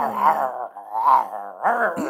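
A dog named Ferdynand growls in three drawn-out, rumbling swells with a moaning, whine-like edge, fairly loud and with no one speaking over it.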